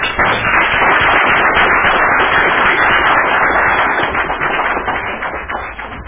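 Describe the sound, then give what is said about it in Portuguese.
A crowd at a celebration breaks into a loud, dense round of applause in honour of people being recognised, many hands clapping in a steady rush for about six seconds before easing off slightly at the end. “eu gostaria aqui de deixar, então, a minha saudação especial, meu agradecimento, ao reconhecimento dessas pessoas e todos os presentes aqui hoje, que vieram também prestigiar a nossa festa, deixar, então, uma salva de palmas especial para eles.”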